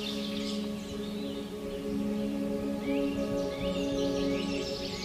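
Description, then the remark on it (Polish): Several birds sing and chirp in quick, high trills and short whistles, including chaffinch and starling song, layered over a steady low droning tone with no talking. “Za mną śpiewa zięba, śpiewają szpaki, słychać czaple, słychać pełzacze, dzięcioły.”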